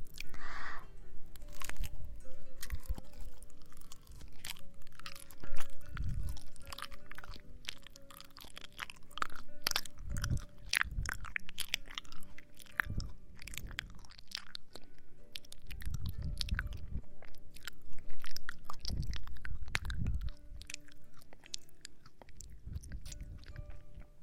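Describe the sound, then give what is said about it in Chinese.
Biting and chewing of a peeled banana, given to a little brother to take the first bite, with steady wet smacks and squishy mouth sounds repeating throughout, loud, with no talking. “我把香蕉剥开，先让弟弟吃，好不好？你先咬一口，来，张嘴，啊！”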